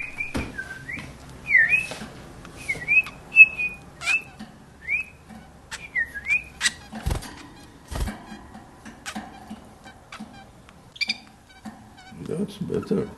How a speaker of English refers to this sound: He says his canary, Toten Bird, is a throwback to the old country.